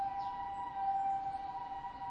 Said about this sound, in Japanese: 救急車やね。